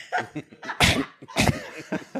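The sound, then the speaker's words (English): A distant cough sound effect: two harsh, breathy bursts about half a second apart, framed by softer throaty rasps and breaths, with no talking. “A distant cough.”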